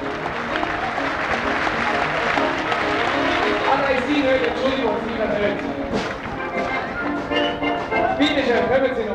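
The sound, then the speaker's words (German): Steady audience applause for a gentleman fills the whole stretch, a dense crackle of many hands clapping at an even, sustained loudness, with some voices mixed in underneath. “Sehr gut, einen kräftigen Applaus für den Herrn.”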